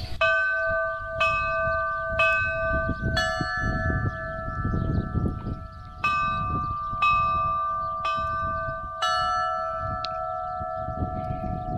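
Church bells ring out in a special peal composed by bell-ringers of Navarra for an eclipse, a new strike arriving roughly every second, each stroke bright and overlapping the hum of the last, over a low rumbling background.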